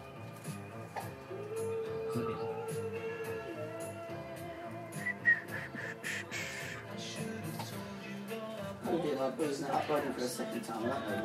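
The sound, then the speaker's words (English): A loud, nasal, duck-like bird call repeats in rough bursts over a busy stretch of music with a sung or spoken voice underneath, growing fuller and louder toward the end. “And that was a hell of a bird.”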